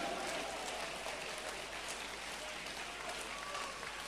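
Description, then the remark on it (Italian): An audience applauds the Lord after a sermon, a dense wash of many hands clapping at once, sustained and fairly loud for the whole stretch, with faint voices and a few high calls mixed into the crowd. “Se riconoscete che l'Evangelo che io predico è dall'alto, date lodi e applaudite al Signore, il Dio vivente.”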